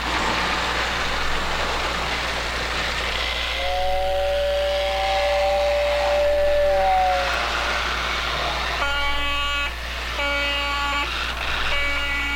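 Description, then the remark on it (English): A model train rumbles along with steady mechanical noise while a whistle sounds twice, first a long gliding tone, then a brighter, layered toot near the end. “When I come up here and I've had an intense day of music making and teaching, I just come up here and I look at my trains and they're so demanding that it's a different kind of intensity.”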